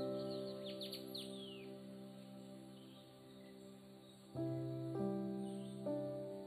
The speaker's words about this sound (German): Um dich herum die Geräusche, die Vögel, vielleicht kannst du auch das sanfte Rauschen der Blätter hören.